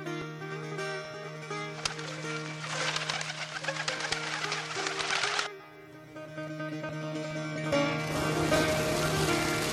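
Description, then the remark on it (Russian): Pigeons coo softly and steadily at an Imamzadeh shrine, away from the city and bazaar, where worshippers scatter grain for them, over a constant low hum, with stretches of rushing, hissy noise that come and go in the background. “Уютный уголок Имамзаде, расположенный вдали от шума и суеты города и базара, стал кровом для голубей, для которых прихожане рассыпают зерна в качестве обета во время посещения Имамзаде.”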